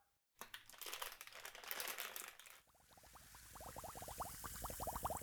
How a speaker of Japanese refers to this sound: ささ、入浴剤入れちゃいますよ。